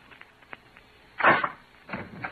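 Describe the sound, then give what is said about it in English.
A man opens a door: a few soft clicks of the latch, then a louder wooden rattle and scrape as it swings, with a second shorter scrape just after. No one speaks. “Roger, open the door.”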